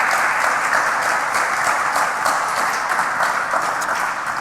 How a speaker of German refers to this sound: Genau, und Applaus.